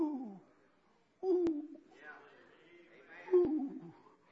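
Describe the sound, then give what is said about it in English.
A man's voice imitates a dove cooing, with low, soft hooting coos in two close, fairly loud bursts separated by a brief pause and some murmuring. “Oh, when you hear him coo, what do you say?”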